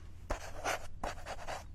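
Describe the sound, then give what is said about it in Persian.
A pen scratches across paper in two quick strokes of a signature, a dry scraping with a brief pause between them. “لطفاً این کاغذ امضا کنین.”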